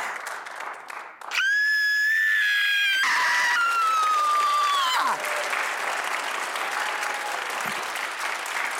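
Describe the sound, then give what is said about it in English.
A long, piercing high-pitched scream holds steady, then a second wavering scream follows in a screaming contest with actor Jack Quaid of Scream (2022), trailing off into loud, sustained applause and cheering from a crowd. “I think I bow to the Scream Queen.”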